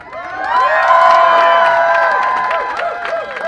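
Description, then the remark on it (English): A large protest crowd at an airport in Connecticut, gathered near the baggage claim after a call from the Connecticut chapter of the Council of American Islamic Relations, cheers and shouts steadily, many voices whooping and calling out together in a loud, sustained roar with scattered clapping, with no single speaker standing out. “An enthusiastic crowd responded to a call on Facebook and Twitter”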